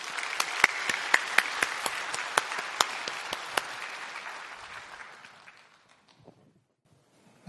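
A church audience applauds to welcome a deacon coming forward to give a testimony on workplace mission Sunday, a steady, dense wash of clapping with a few sharp, louder claps standing out, then the applause thins and fades to near silence over the last couple of seconds.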